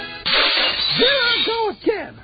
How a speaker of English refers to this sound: Land sakes, if I drop another one of them bottles, there won't be any more left in the entire amalgamated hospital.